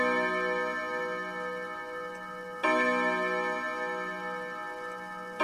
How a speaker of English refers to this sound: The clock chimes 11.